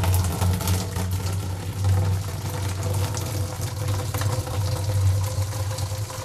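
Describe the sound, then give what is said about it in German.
About 1.5 litres of boiling water from a beer brew kit pours steadily into a beer brewing bucket, a continuous rushing splash with a low, droning resonance underneath, holding an even loudness throughout with no voices. “Ein Spitzengeräusch ist es, wenn Wasser, kochendes Wasser, in einen Bierbraueimer gefüllt wird von einem Brewkit.”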